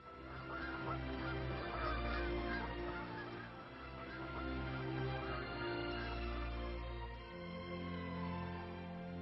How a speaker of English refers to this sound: These birds are ptarmigans, also known as prairie chickens. They live at the poles all year round. Their feathers change color according to the seasons. In summer they are brown, and in winter, white.